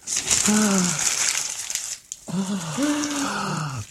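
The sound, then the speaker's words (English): Loud crinkling and tearing of wrapping paper in two long bursts with a brief pause between, while a voice makes drawn-out groaning, effortful sounds over the rustling, as a beautifully wrapped present found under a tree is unwrapped, revealing a box. “There's a present under the tree. Beautifully wrapped. What is it? Oh, hold on. Hold on. I'll unwrap it.”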